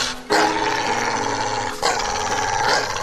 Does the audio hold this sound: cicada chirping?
no